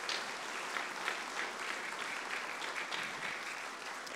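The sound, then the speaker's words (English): An audience at Emory Baptist Church applauds steadily to welcome a family joining the church, a dense wash of many hands clapping at an even level for several seconds with no voices over it. “let it be known with your applause today.”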